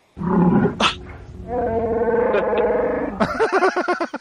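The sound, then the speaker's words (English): A Wookiee roar with a cougar-like quality: a loud, raspy growl swells into a long, wavering harmonic bellow, then breaks into short, rising yowls at the end. No one speaks. “It sounds like the MGM lion. Yeah, it does. No, that's a cougar, I think.”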